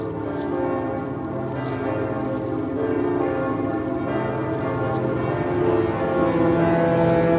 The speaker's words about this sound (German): Ja, die Glocken des Michel, der Klang des Hafens, Heiligabend 2025 im Hamburger Hafen.